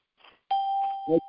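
A single electronic notification ding, signalling someone joining, rings out at a steady mid-high pitch and lingers, sustained, while a few brief muffled voice sounds occur around it.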